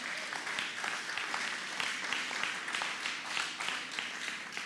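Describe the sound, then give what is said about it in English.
A large crowd claps steadily for several seconds as a clap offering to Jesus, a dense, sustained wash of applause from many hands without pause. “Come on, let's give Jesus a clap offering.”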